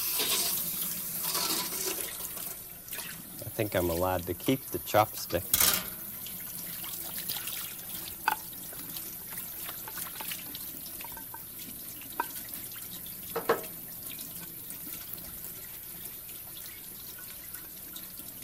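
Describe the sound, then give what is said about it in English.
Steady hiss of tap water running into a sink as a plate is washed, with a few clinks and clatters of dishware early on and a person speaking briefly over the flow. “I'll use some water to wash this plate so I can take it back to Brockett's bakery.”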